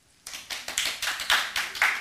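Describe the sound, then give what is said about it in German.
A few audience members clap in a short, loose burst, the claps arriving in an uneven run of about eight slaps, moderately loud, with no one speaking, in answer to being asked who knows 'die kleine Scheißdrecksküche'. “Könnt ihr einmal klatschen? Wer kennt die kleine Scheißdrecksküche?”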